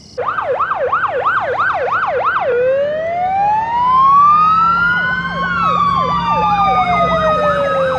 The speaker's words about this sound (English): The next night, high drama, fire trucks in the street